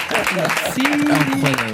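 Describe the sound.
A crowd applauds steadily for the full couple of seconds, a dense, even patter of clapping, while voices speak loudly over it.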